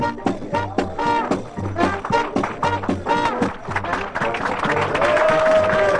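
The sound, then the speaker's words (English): Steady applause from the crowd at Club 609 as the performer Bobby Dell is introduced at a benefit, a dense patter of clapping that holds fairly loud for about six seconds, mixed with cheering voices and some tonal sounds underneath. “Thanks for the clap.”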